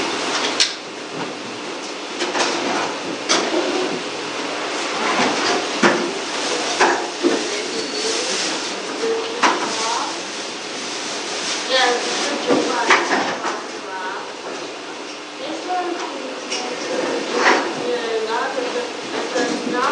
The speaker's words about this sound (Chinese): 那弟兄姊妹，我们现在就可以把这个前面的椅子摆成一个圈，就可以来分享讨论。